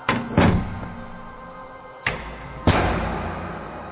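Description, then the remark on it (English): A front door opens and thuds shut a few times at uneven intervals during the night, each heavy bang fairly loud with a short ringing decay. “George had been constantly awakened in the course of the night to the sounds of the front door opening and slamming shut”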